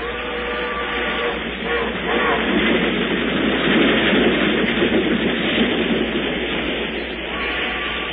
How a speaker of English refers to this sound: They are looking out the window of the smoking car, and in a few moments, the train will stop to drop them at a lonely junction point where the mystery waits for them.